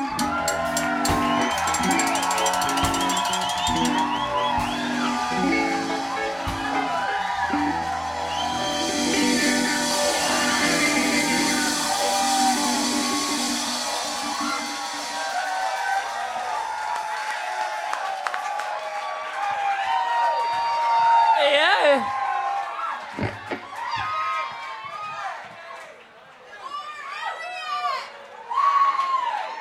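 An audience at a live band concert applauds and cheers, with whoops and scattered shouts rising over the clapping. Sustained and fairly loud for the full half-minute, with some lingering tonal sound in the first half.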